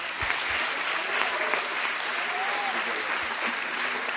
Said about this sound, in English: And I want them to come up here right now and to have their liberty, share the word of God with us. Let's give them a big hand.